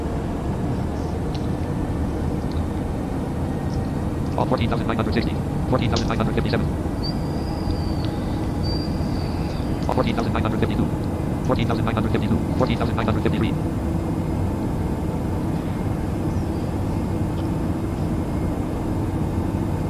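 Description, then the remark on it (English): A steady, loud airplane engine drone fills the whole recording, a constant low roar heard from inside the aircraft at about 15,000 altitude as the pilot tries to hold a consistent altitude, with a few brief bursts of voices breaking through the noise. “The other planes, you know, it sped up and all that with the Dash 8. I mean, you have to get up a little high, but this one, trying to get it to hold a consistent altitude.”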